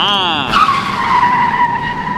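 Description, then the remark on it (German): A follow-me car's tires screech in a long, loud skid, the squeal dropping in pitch before holding a steady shriek for about two seconds. Nobody speaks. “Was ist denn jetzt schon wieder mit dem armen Follow-Me-Auto?”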